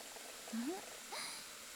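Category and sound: food or drink, carbonated water fizzing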